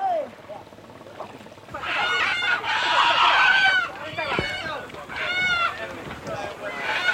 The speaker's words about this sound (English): What's happened is the Komodo dragon has just attacked one of our chickens. It's got one in its claws at the moment. The dragon's gone up, made off with one of our chickens, and it's throttling it slowly in the bush there. It's up on the bank.